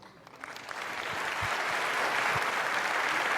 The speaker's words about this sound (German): Bitte begrüßt mit einem sehr, sehr herzlichen Applaus unsere drei Künstler von Übermorgen.